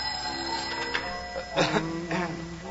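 telephone ringing

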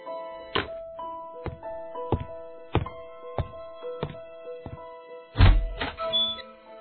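knocking

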